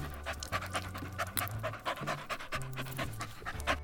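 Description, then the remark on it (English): A golden Labrador retriever named Toots pants in quick, steady breaths, about two or three per second, with a soft low hum running underneath. No one speaks. “The dog is a golden Labrador retriever.”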